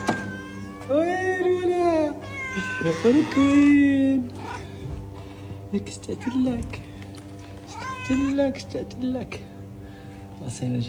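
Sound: cat meowing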